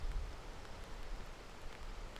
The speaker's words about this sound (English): But, I mean, I'm out here on the side of a mountain by a stream in the rain. There's nobody around. And do you hear the sound of silence?